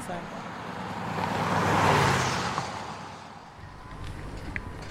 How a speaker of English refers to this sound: Okay, I think that is a ginormous Reform bus. I think we are about to get on that. It's pretty much papered over completely with the aqua blue of Reform. It's got a big sign saying it's Reform.